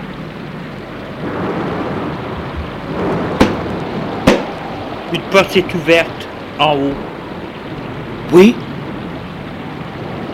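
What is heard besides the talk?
thunderstorm with rain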